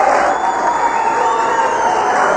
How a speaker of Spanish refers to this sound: Aquí la gente se funde en un aplauso.